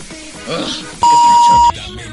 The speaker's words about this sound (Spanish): Bueno, me voy a preparar. Voy a preparar el pitido de censura.